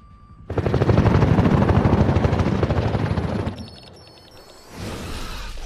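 A helicopter approaches, thundering loudly, its rotor blades chopping in a rapid rhythmic beat for several seconds before the roar briefly drops and then swells again.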